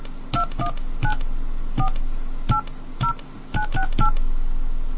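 Phone keypad touch-tones as someone enters a PIN on a calling card service, about ten short beeps in an irregular rhythm, each a clear dual-pitched tone over a low background hum.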